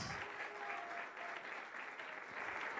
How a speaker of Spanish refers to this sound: ¿Cuántos se atreven a darle un aplauso al Rey de Reyes y Señor de Señores? Gloria a Dios.